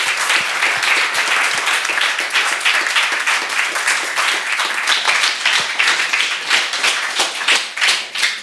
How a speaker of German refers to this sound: So, wenn dann sonst niemand Fragen hat, würde ich nochmal recht herzlichen Dank sagen. Auch vielen Dank. Einen Applaus bitte nochmal für den tollen Vortrag.